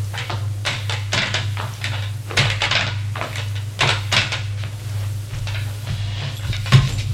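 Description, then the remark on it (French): Several wooden knocks and scrapes come one after another as everyone sits down on chairs in room 421. A steady low hum runs underneath, and no one speaks. “Puis, tout le monde s'assoit sur des chaises.”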